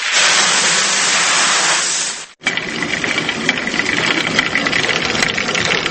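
A family-run water mill in Nikšić grinding corn the old way: a loud, steady rush of water, a brief break, then a continuous rumbling, clattering churn of the millstones running on. No one speaks.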